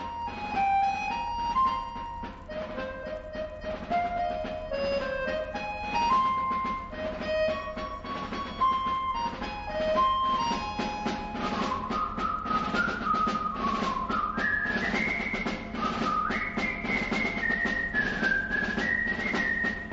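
A lush easy-listening orchestral recording plays steadily throughout, with a bright whistled melody riding high over the full accompaniment; no one speaks.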